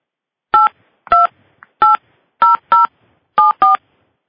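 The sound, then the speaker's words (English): Seven touch-tone keypad beeps as a subscriber PIN is punched in on a phone during a call, each a short two-pitched electronic tone in an uneven rhythm, some pressed in quick pairs, with no talking. “Please enter your subscriber PIN followed by the pound sign.”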